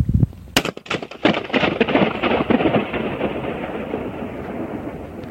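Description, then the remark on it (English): A man pops a balloon with a sharp crack inside an empty nuclear plant cooling tower, then a long rumbling echo rolls on and slowly fades over several seconds, with no one speaking. “This is the sound in an empty nuclear plant cooling tower of a guy just popping a balloon.”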